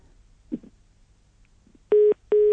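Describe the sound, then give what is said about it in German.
Two loud, steady electronic telephone beeps on a radio phone-in line, each lasting about a fifth of a second with a short gap between, preceded by a few faint soft noises over a low background hum. “Also Entschuldigung für das Tüten gerade eben.”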